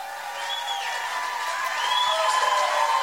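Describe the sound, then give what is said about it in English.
A large crowd cheers steadily for a few seconds at Nikki Haley's campaign event on the night of the Iowa Republican primary, a dense roar of voices with a few sharp whistles rising above it, growing slightly louder toward the end. “Some cheering, of course.”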